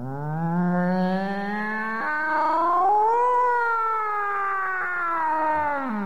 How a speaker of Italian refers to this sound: In quel momento udì un rumore da dietro lo scaffale dei libri di storia, poi un miagolio.